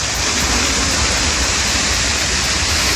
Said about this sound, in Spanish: Ese es el tremendo sonido del crepitar del fuego.